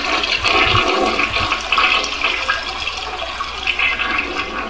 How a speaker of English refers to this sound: Who wins? Flush, flush, flush.